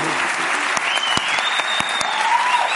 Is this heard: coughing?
no